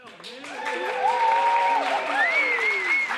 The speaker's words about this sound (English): So cough up a healthy Knoxville cheer for this wonderful lady a-standing right here.